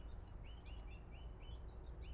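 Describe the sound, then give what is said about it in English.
Small birds chirp repeatedly in quick, high, rising notes, a steady series of faint tweets over a low background rumble, with no one speaking. “The birds are chirping back at me.”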